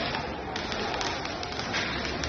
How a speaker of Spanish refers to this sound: zona de la Alameda de Hércules, sobre las 10:30 se han enfrentado ultras del Betis y de la Fiorentina. Mañana juegan ida semifinales de la Conference League en el Villamarín. Se han lanzado sillas, bengalas. Este es el sonido que se ha producido.